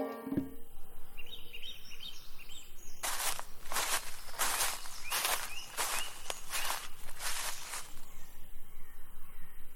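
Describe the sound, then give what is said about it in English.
Forest ambience among trees and different types of herbs, with soft bird chirps, then a run of about eight crunchy footsteps in a steady rhythm, fairly loud, while a crow caws now and then. “What a fresh air! Oh, pure oxygen! I am in the forest.”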